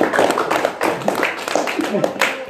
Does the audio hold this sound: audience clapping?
yes